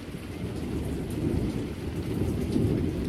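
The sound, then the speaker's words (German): Heavy rain pours steadily while deep, rolling thunder rumbles low underneath, a dense, continuous storm wash with no voices. “Ich bin eigentlich ganz gerne draußen, auch bei Gewitter.”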